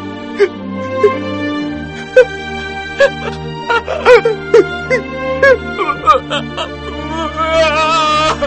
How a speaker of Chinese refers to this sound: 开始的时候他还忍着，渐渐的他便压抑不住了，伏在门上大声地哭起来。